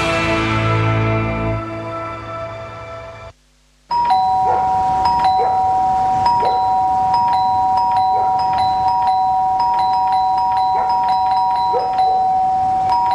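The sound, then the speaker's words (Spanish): A doorbell chime in a Sodimac advertisement for its online Cyber sale rings out and fades. After a short silence, a steady, high electric ringing tone sounds continuously with quick repeated pulses. It is loud and has no voices. “El cyber de Sodima que está tocando a tu puerta y tu casa lo sabe.”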